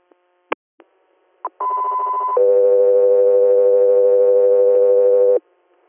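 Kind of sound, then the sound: signal or alarm, radio dispatch alert tones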